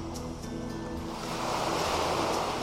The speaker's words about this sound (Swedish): Hur känns det när du befinner dig på din strand? Och hör vågorna slå. Och du upplever havet och naturen runt omkring.